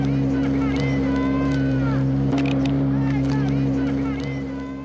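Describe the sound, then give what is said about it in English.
A steady motorboat engine, on a boat used to deliver flower bouquets, drones loudly with a constant low hum, while a voice talks over it and the engine noise eases slightly toward the end. “He's delivered them on horseback, by motorbike, even by boat.”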